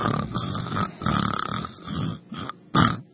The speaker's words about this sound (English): Now, the snores get louder, and the new dispatcher is thinking that the sounds are coming from the husband, you know, who's turning blue.